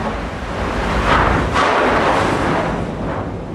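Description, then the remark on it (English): Chunks of ice and slush left in the trail bang and grind against the hull of a U.S. Coast Guard polar icebreaker churning through ice in the Arctic, in a loud, continuous roar, with a couple of sharper booming thuds breaking through the heavy rumbling wash of slush. “Coast Guard polar icebreaker churning through ice in the Arctic, slush and large chunks of ice left in the trail bang up against the hull of the ship.”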